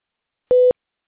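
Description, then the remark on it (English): A single short, steady electronic tone sounds once on a phone line as a call agent adds another person to the call, clear and fairly loud, with silence before and after and no one talking. “So just give me 1 second. I can add her to the line.”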